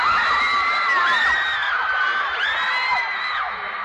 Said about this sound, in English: Are you here to listen to music or just to have a lot of fun shouting?